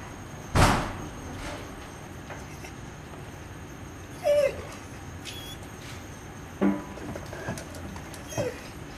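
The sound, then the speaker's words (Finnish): A search dog arrives during a search dog training exercise in a quiet, hushed setting: one sharp knock, then three brief whines or yelps spaced a couple of seconds apart, with no one talking. “että toimin maalina tässä etsintäkoiraharjoituksessa.”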